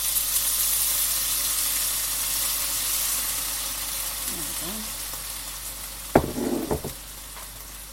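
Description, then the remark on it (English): Teriyaki sauce sizzles steadily in a hot frying pan, a bright continuous hiss, with a brief spoken remark midway and a few sharp clinks of a utensil against the pan near the end. “Now I'm going to pop in my teriyaki sauce.”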